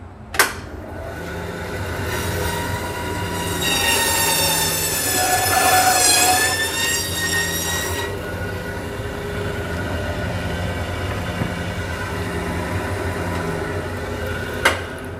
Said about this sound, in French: Donc là on va les passer dans la scie à os. La vilaine machine qui fait du bruit.